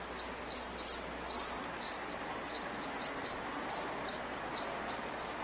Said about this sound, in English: I think I hear crickets.